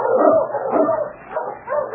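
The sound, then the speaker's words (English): A husky sled dog barks and yips excitedly as it is urged on to pull a mail sled, in a steady, unbroken stream of eager cries, fairly loud, with whining notes between the barks and no talking. “Put the mail on the sled. There. All right, fella. On, King! On, you husky!”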